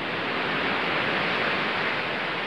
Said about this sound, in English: And her objective is to get these crashing waves and get rid of the babbling brook. Well, they're both good, but we want to hear more of the waves than the brook.